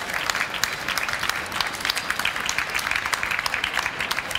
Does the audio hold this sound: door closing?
no